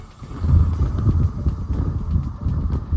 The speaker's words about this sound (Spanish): El barrio de Haringey ha cambiado el ruido del tráfico de la periferia por el de un gran vendaval.